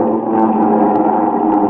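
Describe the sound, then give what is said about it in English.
A loud, steady roar of large multi-engine planes at Marchfield, a dense droning hum with layered engine tones holding constant throughout, unbroken, with no voices. “Then comes flight time and the sound of planes, great multimotor giants.”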